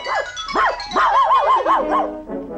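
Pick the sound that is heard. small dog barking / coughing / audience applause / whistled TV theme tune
small dog barking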